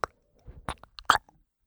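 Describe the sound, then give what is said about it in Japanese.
Gum being chewed right up close, a handful of wet, sticky clicks and squelches in an uneven rhythm over near silence, with no talking. “ねえ、私は耳にゴムをすするから。”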